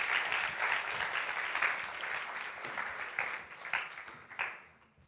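A crowd applauds steadily, dense clapping filling the room for several seconds before tapering off toward the end, with no one speaking over it.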